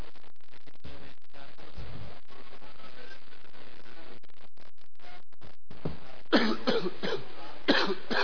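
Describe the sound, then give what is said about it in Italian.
A person coughs during a council meeting, two harsh bursts near the end, the first a rough cluster of coughs and the second shorter, after a stretch of quiet background noise. “Chiedo scusa stasera se arriverà qualche colpo di tosse in più, ma non è una cosa voluta.”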